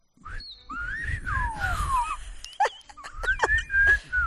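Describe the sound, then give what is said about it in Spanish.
A person whistles the phrase 'silba alto' in Silbo Gomero style: a series of sliding, rising and falling whistled tones broken into short syllable-like bursts, clear over a low background rumble. “Tú intenta decir silbando silba alto.”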